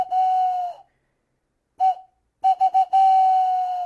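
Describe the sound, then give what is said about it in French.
An owl call imitated on a bird call: a long steady hooting whistle, a short one after a pause, then three quick notes and a final long held tone, all on one pitch. “Avec un appeau, ça donne cela.”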